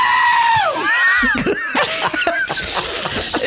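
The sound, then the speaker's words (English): A fox gives a series of loud, wavering, high-pitched screams that rise and fall, while several sharp tennis ball hits, added in afterwards, pop in between the calls. “That one is actually a fox.”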